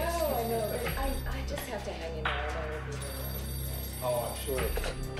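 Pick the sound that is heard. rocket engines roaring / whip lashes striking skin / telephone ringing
telephone ringing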